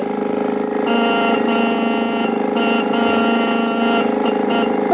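A car motor roars steadily as the vehicle pulls away, a loud, buzzing drone with a slight rise and waver in pitch, lasting throughout with no voices.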